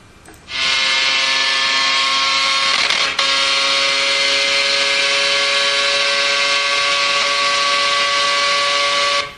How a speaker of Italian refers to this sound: Sentite qua il rumore, il suono della macchina di Formula 1 emesso quando voi siete on board, sulla macchina, ok? Voi siete... Raikkonen, no, però non va, Vettel, ok, siete sulla macchina con Vettel.